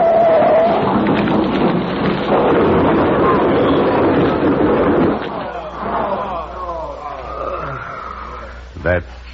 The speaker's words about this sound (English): Merciful providence. The car's tipping. It's going over now.